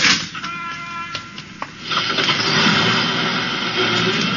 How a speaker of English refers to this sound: And as the bus started up, the driver said...